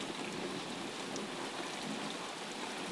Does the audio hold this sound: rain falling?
yes